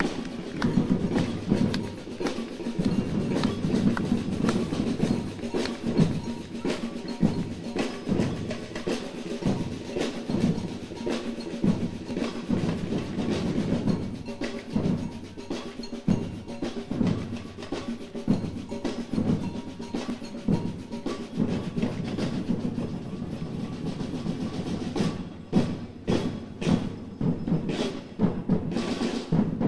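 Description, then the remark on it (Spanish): The batucada samba drum group, from Leganés, plays at an event in Fuenlabrada: a loud, dense, driving rhythm, deep drums thumping under crisp sharp hits, steady and unbroken for the whole stretch with no voices. “Y ahora, desde Leganés, con fuerza, con potencia, la batucada ….”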